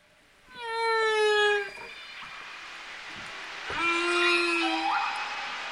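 Two long, tonal whale calls ring out underwater in the ocean, each a rich harmonic moan that holds and bends in pitch, separated by a brief pause. Clear and fairly loud, with no voices.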